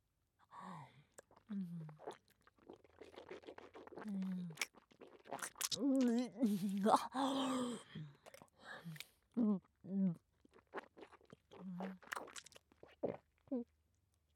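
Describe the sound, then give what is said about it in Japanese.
Wet chewing and smacking mouth sounds repeat irregularly, interspersed with short voiced hums and murmured vocal noises, with no clear words. “それではもぐもぐするからな。”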